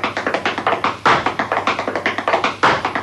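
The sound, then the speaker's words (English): Brisk clog stepping: quick, sharp wooden taps in a steady, rapid rhythm, punctuated by two heavier, louder stamps that accent the pattern, steps that imitate the rhythms of cotton mill loom machinery and the shuttle. No voices are heard. “You know, that type of stepping, which all comes from machinery.”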